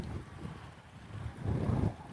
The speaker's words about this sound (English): The wind is blowing against her, so I don't know.